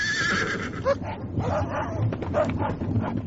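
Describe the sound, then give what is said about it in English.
A horse neighs in a high, shrill whinny at the start, fading into rough, breathy snorting and scuffling noise over a dense, rumbling background. “My horse!”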